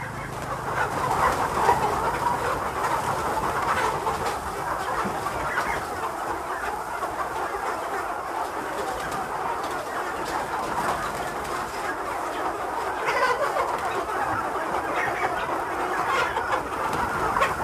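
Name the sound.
chickens clucking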